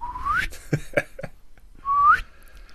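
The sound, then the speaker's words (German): A person whistles two rising, sliding glissandos that mimic a slide whistle, a whistle with a rod at the front, separated by a few short percussive clicks or knocks, fairly loud with no talking. “So, wie so eine Pfeife, die so ein Stabal vorne hat.”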